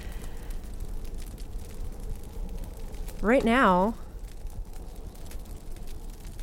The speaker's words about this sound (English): we're hearing what is termed a relaxing winter snowstorm and fireplace. I guess as long as there's a fireplace involved, a snowstorm can be very relaxing.